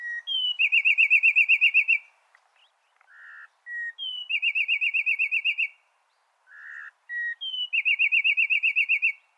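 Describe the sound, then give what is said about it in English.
Three loud bursts of Peruvian wren (Cynocerthia peruana) song, each a rapid trilled series of ringing notes preceded by short introductory whistles, separated by brief pauses. No talking. “And this one is a Peruvian wren, Cynocerthia peruana.”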